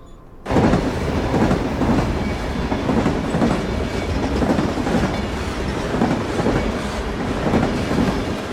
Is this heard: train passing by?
yes